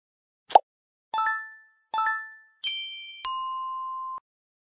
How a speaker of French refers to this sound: Plus tard, il s'endort et est réveillé par plusieurs bruits de notification.